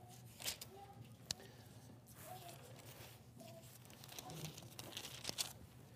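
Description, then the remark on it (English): Thin Bible pages are turned and rustled several times in quick succession to Exodus chapter 9, soft crinkly flips over a quiet low hum, with no talking. “Look at verse 23. Exodus 9, verse 23. Let's read what the seventh plague was on the Egyptians. I'm going to turn there too.”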